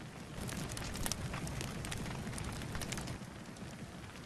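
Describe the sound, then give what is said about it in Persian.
A steady crackling fire fills the whole recording, with dense snapping pops and a continuous hissing roar and no voices. “با این لباس پوشیدنت نمیتونم از آتیش حسابی لذت ببرم، پس برو.”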